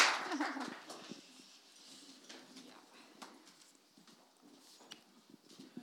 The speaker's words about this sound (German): Ja, da könnt ihr ruhig mal klatscht mal wieder richtig.